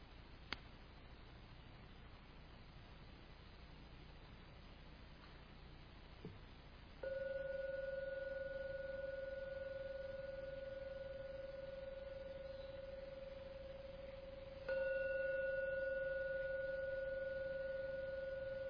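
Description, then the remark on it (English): A meditation gong is struck three times to end a meditation, a soft first stroke then two louder ones spaced several seconds apart, each leaving a steady, pure ring that lingers and fades slowly. “Gong 3 times. Please wait until the last ringing vanishes before you open your eyes to end the meditation.”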